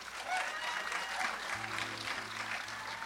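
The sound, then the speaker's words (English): An audience claps steadily for about three seconds, those of Irish descent responding to a question, a dense, even patter of many hands at moderate loudness, with a faint low hum running underneath. “I can't see you, so clap.”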